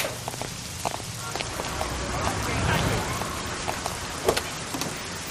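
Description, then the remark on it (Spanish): Torrential rain pours down in a steady, dense wash of noise, with scattered sharper drops and splashes breaking through now and then, continuous throughout. “Se añade un contratiempo, empieza a llover de forma torrencial.”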